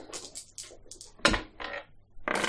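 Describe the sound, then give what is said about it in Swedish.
A hatch creaks and scrapes open, a run of short rasping bursts broken by a solid knock midway, then a final longer grinding creak. No one speaks. “Gnisslande går även den här luckan upp.”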